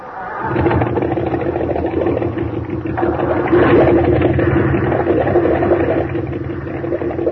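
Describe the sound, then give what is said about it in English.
A boat engine drones steadily while under way, turning up 2,800 and throwing a large wake, a loud, continuous mid-pitched rumble with a rattling clatter and rushing water noise, swelling slightly midway and holding constant throughout. “Boy, we throw a wake like a little Queen Mary. Turning up 2,800.”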